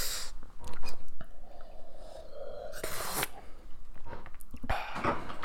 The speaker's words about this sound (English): Let me just take a sip of water here. Me too.